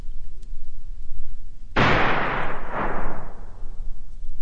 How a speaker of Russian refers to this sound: Но все-таки в лесу кто-то выстрелил. Кто? Зачем? В кого?